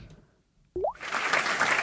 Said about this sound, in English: Ooh, that's a better applause. I like that better.